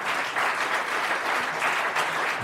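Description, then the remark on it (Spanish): Steady audience applause, a dense wash of many hands clapping at once, loud and continuous for the whole stretch with no voices over it. “No aplaudan, ¿eh? No. No aplaudan.”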